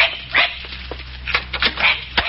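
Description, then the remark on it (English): A young dog named Skipper gives several quick, excited yips and barks in an irregular burst, over a steady low background hum. “Hey, we're going to get you a dog tag, young fella. Look, he's excited.”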